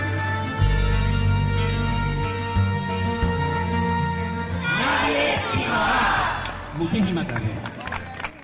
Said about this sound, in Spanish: Pues con este grito, nadie sin hogar, que ayer se podía escuchar en la plaza de la catedral cuando terminaba el acto público organizado por Cáritas, comenzaban los actos de la campaña Nadie sin Hogar